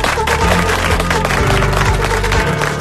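An audience applauds loudly and steadily, dense clapping filling the whole stretch without pause, with a low musical backing running beneath it.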